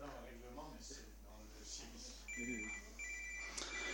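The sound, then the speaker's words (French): A mobile phone rings with a steady electronic tone that starts partway through, pauses briefly, then resumes, sounding over a man talking during a municipal council debate. “Je vais également éteindre mon téléphone.”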